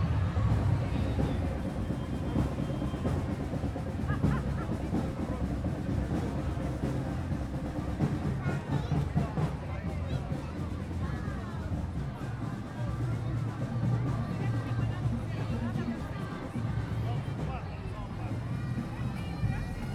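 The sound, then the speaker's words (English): Loud, continuous drumming by the Gibraltar Academy of Music and Performing Arts and the Gibraltar Sea Scouts Band at night in the 60th anniversary Gibraltar Cavalcade parade along Main Street, Gibraltar: a dense, driving rhythm of many beats running steadily throughout, with a murmur of crowd noise underneath. “That was the drums from the Gibraltar Academy of Music and Performing Arts and the Gibraltar Sea Scouts Band, adding the atmosphere to the 60th anniversary Gibraltar Cavalcade last night.”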